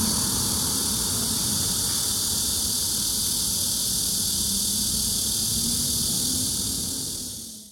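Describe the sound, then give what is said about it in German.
A loud, continuous buzzing drone of Korean cicadas, called Maemi, fills the air, steady and dense from start to finish before cutting off at the very end, with no voices. “Den Gesang der koreanischen Zikaden, genannt Mämi, können wir in Deutschland so nicht hören.”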